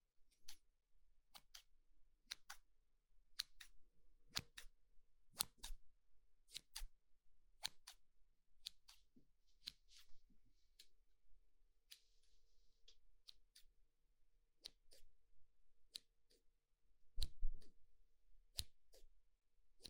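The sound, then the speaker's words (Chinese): Scissors snip repeatedly right up close, crisp sharp clicks at a fairly steady pace with occasional soft rustles between them, quiet and intimate with no talking. “你喜欢剪刀在你耳边咔嚓咔嚓的声音吗？”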